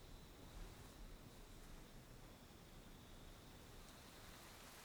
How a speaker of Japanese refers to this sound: おい、雨降ってきたぜ。